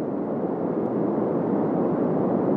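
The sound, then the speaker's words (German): A steady, unbroken rush of white noise holds at an even, fairly loud level throughout, with a dense, hissing texture and no voices or other sounds. “Sie tun das mit Nebenbeigeräuschen, mit Naturklängen etwa oder mit reinem weißen Rauschen.”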